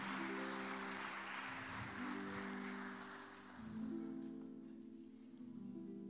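Sustained audience applause for honorees invited up, with a moment for photographers, a dense, steady wash of clapping from many hands that holds its loudness for the whole stretch, with sustained musical tones sounding underneath.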